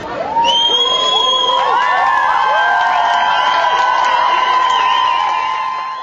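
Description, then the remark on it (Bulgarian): A large crowd of young voices, students gathered on the sidewalk outside a school, cheers and shouts together to welcome their school principal with ovations, with overlapping high-pitched whoops and yells held loud and steady throughout. “И приеха с овации и възгласи своята директорка.”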